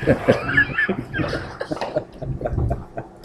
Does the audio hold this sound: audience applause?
no